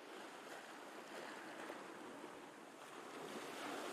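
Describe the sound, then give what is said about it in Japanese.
Steady ocean surf washes continuously onto Waikiki Beach in Hawaii, made of eight connected beaches, a broad, even rush of water with gentle swells and no distinct breaks, fairly loud with a light breeze. “実はこの場所、8つのビーチがつながってできているそう。”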